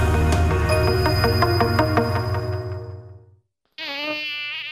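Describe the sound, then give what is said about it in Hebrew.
A loud mosquito whine drones steadily, fades out into a brief silence, then returns at a higher, thinner pitch as if buzzing by the ear. No one speaks. “די להקיצות, סנודאי, הדרך הקלה והנוחה להגנה מפני עקיצות יתושים.”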